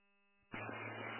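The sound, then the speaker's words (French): A low electrical hum gives way abruptly to a loud, steady whooshing roar with a buzzing undertone, two electric fans running at full speed on a hot day of about 83 degrees, with no voices. “Là, fait que j'ai deux ventilateurs qui fonctionnent, comme on dit, à plein régime.”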